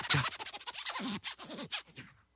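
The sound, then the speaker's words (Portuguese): A rapid run of DJ turntable scratches, bright raspy bursts sweeping up and down in pitch in a choppy rhythm, loud at first and trailing off, with no talking. “Que o som do scratch era parecido com o do zíper da minha blusa.”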